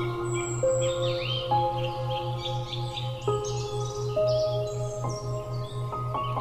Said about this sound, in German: Du hörst den Vögeln zu, wie sie dir ein sanftes Schlaflied singen. Begleitet durch das leise Rauschen eines Baches. Und das Rascheln der Blätter im Wind.